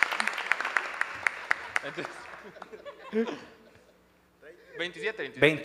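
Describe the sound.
A burst of crowd applause, many sharp claps in quick succession for about two seconds, with a bit of laughter, fading into people talking.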